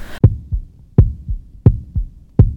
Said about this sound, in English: I felt my heartbeat quicken before I took a deep breath, smiled and loosened my grip.